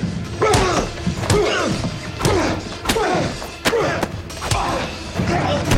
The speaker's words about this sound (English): Wanda lands a series of punches. Wanda throws Ludlow onto his back and punches him repeatedly in the face.